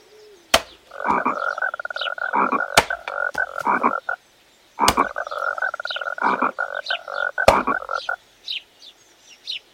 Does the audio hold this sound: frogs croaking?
yes